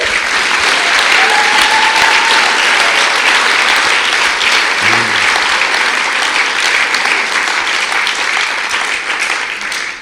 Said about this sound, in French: Soyons honnêtes. J'aimerais qu'on puisse applaudir pour l'Église du Dieu vivant.